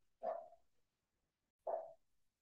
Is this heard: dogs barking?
yes